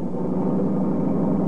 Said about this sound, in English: I know that car. Never saw him drive like that before. Well, I must say, sir, you're going rather fast.